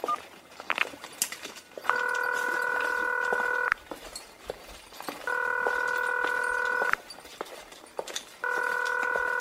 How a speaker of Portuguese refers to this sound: Atende esse telefone. Tá caindo direto.